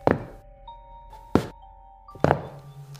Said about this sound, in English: There was a brief period of silence and footsteps at the bottom of the stairs. Not just footsteps, the thud too. After every other step, these weren't the footfalls of a child. They were slow, heavy, and deliberate.